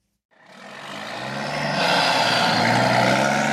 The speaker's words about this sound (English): 50 miles east of Los Angeles, just off Interstate 10, is one of the busiest long-haul truck stops in America. Here, tired drivers can park their big rigs for the night, grab a bite to eat, take a shower, and relax in front of a big-screen TV.